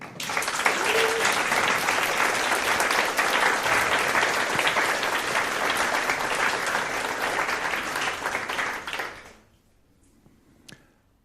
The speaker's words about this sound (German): Zeigt euch, dieser Applaus ist für euch.